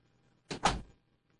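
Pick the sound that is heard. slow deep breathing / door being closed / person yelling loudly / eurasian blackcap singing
door being closed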